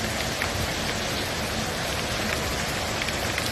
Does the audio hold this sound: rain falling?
yes